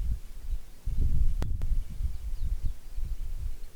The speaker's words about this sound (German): Der Wind.